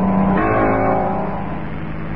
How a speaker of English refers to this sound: Suddenly, I heard a car coming up the drive.